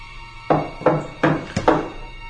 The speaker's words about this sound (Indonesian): Astaga. Ada yang mengetuk pintu kamarku.